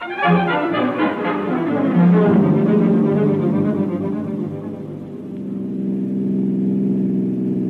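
A car engine hums steadily while driving, a loud, continuous low drone with a rougher burst at the start that settles into an even rumble. No voices are heard.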